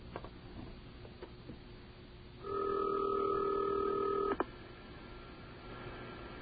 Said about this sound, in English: We're calling up to somebody way far away. And let's see if anybody answers there. Probably not. Is the call going through? It's ringing.